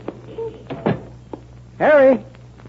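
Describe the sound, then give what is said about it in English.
A door is pushed open: a dull knock and shuffle, then a loud, drawn-out creak of the hinges lasting about half a second. “It's funny. Door is open.”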